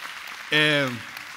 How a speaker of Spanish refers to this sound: Sí, un fuerte aplauso, ¿por qué no?